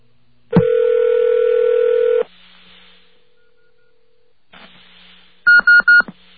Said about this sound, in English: This is what a beeper sounds like when you connect to it.